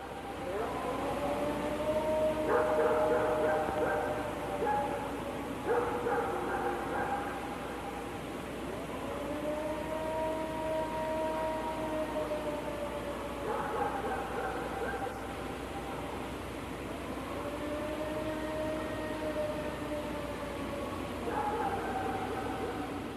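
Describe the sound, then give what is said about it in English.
A 1994 recording of the unexplained "Ohio Howl": a wavering howl rises and falls in long wailing sweeps like a siren, repeating over steady background hiss with intermittent bursts of clattering noise, no voices present. “Now, you can hear, again, it sounds like a siren wailing in the background.”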